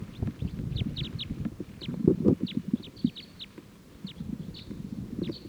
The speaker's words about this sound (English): There's a whole big flock of crossbills in a Douglas fir right here foraging on combs. And they just got startled by something and took off.